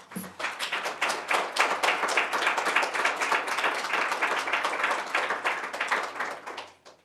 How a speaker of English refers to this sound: we'll just give one more round of applause for the excellent writing we've heard tonight